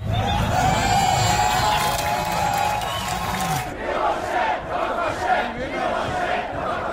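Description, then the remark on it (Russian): A large crowd of protesters, opponents of Chinese policy toward Tibet and human rights activists, shouts and chants together near Prague Castle in a loud, continuous roar, with rising yells and cries layered over a dense wash of voices that stays steady throughout. “Несогласные со сближением Чехии с КНР, противники политики Китая по отношению к Тибету и правозащитники провели около Пражского града несколько протестных акций.”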